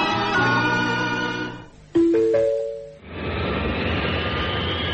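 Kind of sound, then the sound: vehicle, airplane engine in flight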